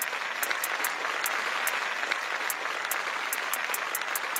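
Steady applause for the president from many hands, a dense continuous patter of clapping with sharp individual claps standing out at a moderate, even level throughout, with no voices.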